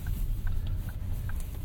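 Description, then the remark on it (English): A car's turn signal ticks steadily, several quick clicks at an even pace, over the low rumble of the engine inside the vehicle, while driving on a one-way street where only a left turn is possible. “I don't know why I'm indicating, it's a one way, you can only go left.”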